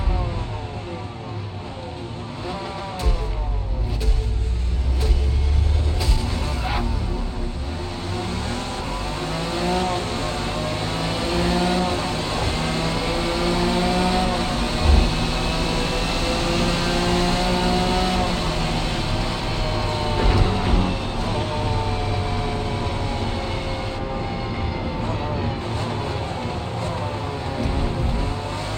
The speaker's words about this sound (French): Donc je vous invite à mettre un casque ou à des écouteurs si ce n'est déjà fait, puisque les captations ont été réalisées en 3D, donc en binaural. Pour cette démo, nous sommes 24 pilotes, donc c'est pour ça que vous entendez plein de voitures autour.